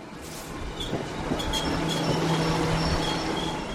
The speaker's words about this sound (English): The train from Boston has just pulled into the Forge Park 495 station, just over the town line in Franklin. People are sprinting from the train to their SUVs.